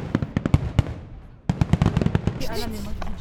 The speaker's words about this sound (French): Par la suite, nous nous rendîmes au feu d'artifice des 181 ans de la ville. Le bruit me terrorisa.